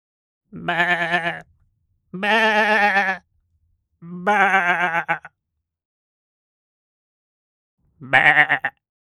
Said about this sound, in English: Sheep.